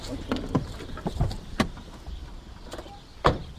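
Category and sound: vehicle, car parking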